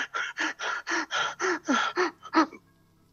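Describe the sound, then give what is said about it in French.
A hiding man's rapid, heavy panting breaths, about ten in quick rhythmic succession, fairly loud, ending in a sharper gasp before falling silent. “vous entendez des chants à l'intérieur, et un homme qui se cache, la respiration haletante.”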